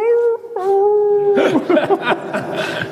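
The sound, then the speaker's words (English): A person imitates a howl with a long, steady, wavering cry, then breaks into a rougher burst of yelping, chaotic vocal sounds. “And I remember just sitting there sipping my wine, you know, with these speakers howling. And then, of course, all the coyotes and everything in the hills would answer.”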